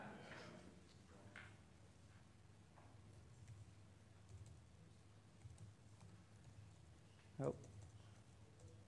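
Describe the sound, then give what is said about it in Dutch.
Soft, irregular clicking of keys on a computer keyboard, fairly quiet against a low background hum, with one sharper, louder knock near the end. “Nou, is het toetsenbord erg ingewikkeld ingesteld?”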